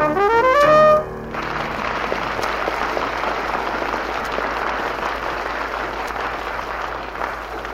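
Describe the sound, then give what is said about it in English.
A short burst of bright, stepped musical tones gives way to a large audience clapping to vote for the best of five show acts for an audience prize, read on an applause meter; a steady, dense wash of applause that holds at an even level until the end. “We will present each of the five acts, and we would like for you to applaud for the one you thought best of the five.”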